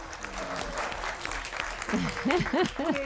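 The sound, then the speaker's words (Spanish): An audience, including a guest's classmates, claps steadily in a dense wash of applause throughout, with a voice speaking over it and rising in pitch toward the end. “¿Podéis aplaudir si queréis, que se note que está esto lleno.”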